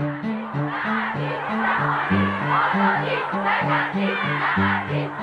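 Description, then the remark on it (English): A crowd of women marching through the streets of Tehran chants "Azadi" (freedom) over and over in a steady, insistent rhythm, their voices loud and unified above a constant wash of crowd noise. “The women's chant, Azadi, Azadi, shouting for freedom, echoed through the streets as men jeered at them, chased them into alleyways, and exposed themselves.”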